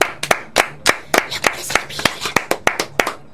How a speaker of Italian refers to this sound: Applausi.